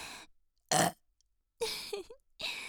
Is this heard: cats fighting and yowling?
no